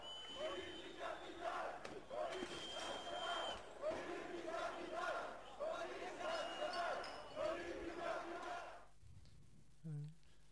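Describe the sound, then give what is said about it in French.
A dense crowd of several hundred protesters shouts and chants in rhythmic, surging bursts while confronting riot police, trying to get past their barrier of officers and anti-riot fences across the street; then the roar cuts off abruptly, leaving near silence and one brief low thump. “plusieurs centaines de manifestants ont choisi de ne pas suivre le parcours prévu et d'aller au contact avec les flics”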